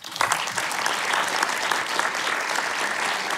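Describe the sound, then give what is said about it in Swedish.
An audience applauding steadily to welcome a neuropsychologist guest, a dense, continuous patter of many hands clapping at an even loudness for a few seconds, with no voices standing out. “En applåd.”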